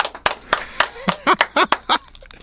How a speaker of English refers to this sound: By the way, we have six people in here, and I hear two of us clapping. Let's try that again.